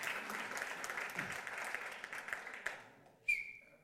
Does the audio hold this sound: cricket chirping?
no